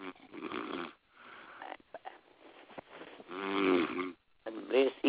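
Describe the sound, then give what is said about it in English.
Loud, rough snoring from a sleepy caller on a telephone prayer line comes through a thin, muffled phone line: several long rattling breaths separated by short silences, some turning into a higher, wheezy buzz. “Why don't you just get off the line and go and get your good nap.”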